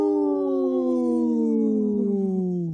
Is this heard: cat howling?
yes